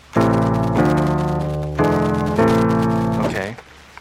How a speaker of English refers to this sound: In fact, it's real similar to the minor scale, which sounds like this.